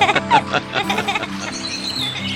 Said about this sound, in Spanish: En las copas de los árboles por donde estábamos, se juntaron cientos de pequeños pajaritos. Por momentos, unos cuantos echaban sus cantos al viento, pero instantes después, toda la bandada respondía brevemente.